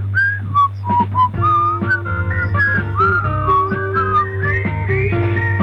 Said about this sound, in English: Let's just sit back and whistle a little bit now, shall we?